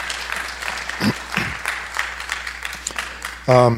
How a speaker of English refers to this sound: Yeah, you deserve a round of applause. You do.